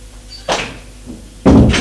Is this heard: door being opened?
yes